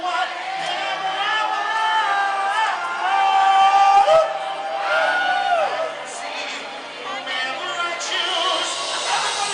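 An audience in a concert hall sings loudly along as a song is sung into a microphone, many voices blending into a raucous, wavering chorus with occasional whoops, filling the whole stretch without a pause.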